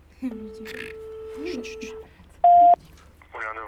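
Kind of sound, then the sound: signal or alarm, telephone number being dialed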